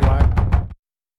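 Four quick, firm knocks on a door in a rapid even rhythm, fairly loud, followed by sudden silence.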